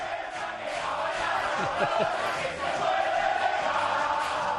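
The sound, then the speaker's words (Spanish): The Atlético de Madrid locker room: a rowdy group of voices chants and sings together in a dense, steady din, with shouts rising over the crowd noise and sharp claps and thumps as the team claps, bangs against things and dances. “Esta bronca, esta juerga que oímos de fondo es el vestuario de Madrid cantando, dando palmas y golpes contra lo que sea, bailando.”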